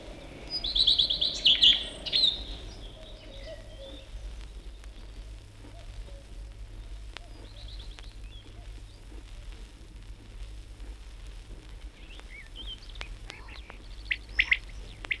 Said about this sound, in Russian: Насвистывает свою немудреную песенку горехвостка, раскачиваясь на тонкой ветке орешника. Попоет, попоет, да и взлетит.